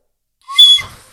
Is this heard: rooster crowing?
no